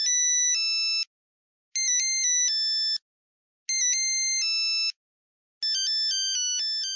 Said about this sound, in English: And these were basic monophonic ringtones, simple bleeps and bloops, like this.